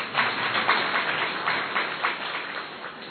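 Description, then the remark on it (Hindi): A crowd applauds a woman invited up to sit on a sofa, many hands clapping in a dense, even patter that stays fairly loud for about three seconds with no voices over it. “देखिए वहां से यहां तक आई, ताली नहीं बजी थी तो मुस्कुराहट भी नहीं आई थी, ताली बजी तो मुस्कुराहट आई।”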